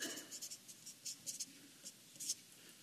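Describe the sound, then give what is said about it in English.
A pen scratches across a sheet of paper in short, irregular strokes as a preacher writes during a sermon, dry but quiet, with no voices. “Well, let's just use the same piece of paper.”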